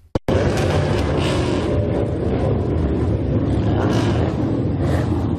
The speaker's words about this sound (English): The roar of motorbikes and souped-up cars rang out in Grey Lynn as several hundred gang members gathered to farewell one of their own.